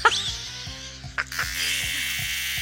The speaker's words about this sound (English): And it is that time of year, you know? Oh, it's the song of the cicada, right? Yeah.